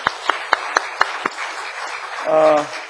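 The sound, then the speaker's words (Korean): Six or so sharp claps in a quick, steady rhythm, like a group clapping together in unison, then fading out as a voice briefly speaks; a church audience applauding for those who served. “우리 수고하신 분들 위해서 박수 주시고요.”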